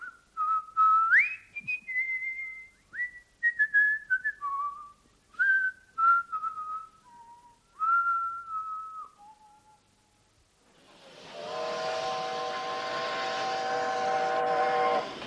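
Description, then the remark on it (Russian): A whistled melody of short and held notes gives way, after a brief pause, to a long, loud steam locomotive whistle blast with a rich, breathy, multi-toned sound, sustained for several seconds, at a railway station. “Вокзал с его разноголосою сутолокою, грохотом приходящих поездов, свистками паровозов, то густыми и сердитыми, как голос Осипа Абрамыча, то визгливыми и тонкими, как голос его больной жены”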